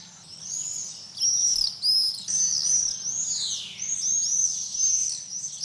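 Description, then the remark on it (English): A flock of nesting swifts screams continuously, shrill high-pitched calls overlapping and sweeping in rapid bursts, with a faint low rumble of background noise beneath. “Here's what those swifts sound like.”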